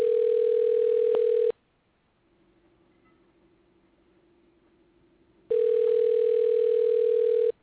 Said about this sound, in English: See if she answered the phone. She's not going to answer.